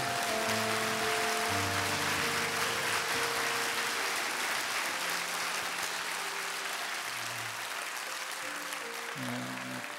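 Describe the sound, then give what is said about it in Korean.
A church audience applauds in glory of the risen God and Jesus in a dense, steady wash of clapping that holds for about ten seconds, with low sustained musical notes murmuring underneath. “예, 부활하신 하나님 예수님 두 분께 영광의 박수 올려드리겠습니다.”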